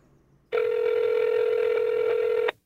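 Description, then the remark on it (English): A telephone line tone as a call is placed to the people in charge of California's water: a single steady, buzzy electronic tone that holds at an even volume for about two seconds, then cuts off, with no voices. “After I staked my claim, I tried calling up the people in charge of California's water, just to make sure everything was cool.”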